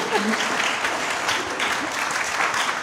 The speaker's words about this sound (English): I do think, you can clap if you like, it's okay.